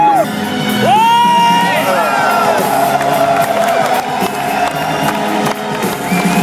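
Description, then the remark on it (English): A large concert crowd at the Trianon cheers and applauds continuously as the concert begins, with whoops and high shouts rising over dense clapping, loud throughout. “Les applaudissements sont nourris.”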